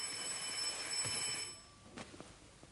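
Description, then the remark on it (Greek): A telephone rings at five in the morning with a steady, high, bell-like electronic trill that lasts about a second and a half, then cuts off, leaving a few faint clicks and knocks. “Τηλέφωνο 5 η ώρα το πρωί.”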